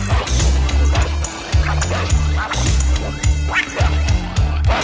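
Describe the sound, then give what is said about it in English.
A small dog named Snuggles yaps in quick, repeated bursts at a fairly regular rhythm, fairly loud, over a steady low-pitched musical background that continues throughout. “He was a little dog named Snuggles.”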